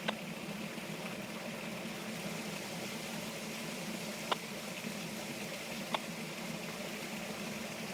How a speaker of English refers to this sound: Yeah, I'm over here now by the stream. Rivers have died down here a little bit, though we get these raging rivers at the end, at the beginning of spring, end of winter, gushing down and, yeah, kind of clean everything up.